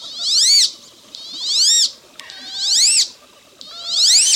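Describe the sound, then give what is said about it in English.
A male wood duck gives four thin, rising, squealing whistles in response to his mate's call, each about half a second long and evenly spaced, fairly loud and high-pitched, with no one talking. “Although you're less likely to hear it, the male responds with this call.”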